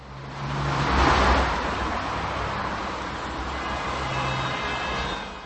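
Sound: city street traffic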